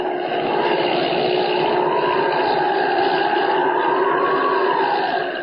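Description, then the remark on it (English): A steady, droning engine roar holds for the whole stretch, its pitch slowly rising and falling in a gentle swell like a small plane banking overhead. No voices, just the continuous motor hum. It is Holbein's plane circling to land at the Sudbury Airport. “He's circling, getting ready to land.”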